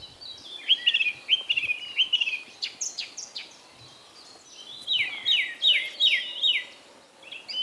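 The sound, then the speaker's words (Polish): A song thrush sings clear, bright phrases of repeated syllables, each figure rattled off several times before a short pause, with other birds faintly chirping in the background. “Jak coś w lesie, w zagajniku powtarza, no to jest to śpiewak.”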